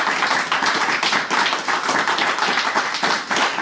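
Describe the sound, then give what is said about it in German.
Sustained closing audience applause at the end of the show, a dense, steady wash of many hands clapping at once, loud and continuous throughout with no voices on top. “Und jetzt könnt ihr nochmal zum Abschluss einen tosenden Applaus raushauen.”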